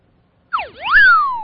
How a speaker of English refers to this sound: There, that's the dumbass whistle, John. I want to give him more than that. I want that to be the sound effect of the populace smacking him upside the head.